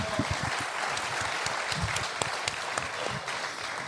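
A crowd applauding steadily, dense overlapping claps sustained at an even loudness for the whole stretch, sounding fairly close like a room full of people clapping together.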